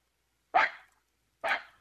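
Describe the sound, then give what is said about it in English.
Two short, sharp barks about a second apart, a person's voice convincingly imitating a small dog, each yap bright with a quick fade and silence between. “Yeah, sound like a perfect little dog there.”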